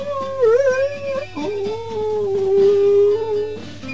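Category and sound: animal, dog howling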